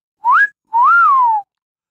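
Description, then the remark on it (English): Two clear, loud human whistles, a short upward-sliding chirp followed by a longer tone that rises and then glides down, with silence around them and no talking. “And then there's this whistle.”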